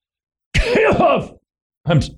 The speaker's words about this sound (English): did we get our cough button fixed? Because I've got this little thing.